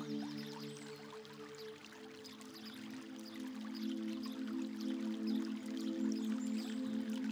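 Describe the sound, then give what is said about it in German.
A small stream of warm thermal water trickles and burbles steadily, with small splashes and drips over a low continuous hum, growing slightly louder toward the end. No one speaks. “Es ist ein kleiner Fluss mit Thermalwasser, warme Gewässer in einer perfekten Temperatur.”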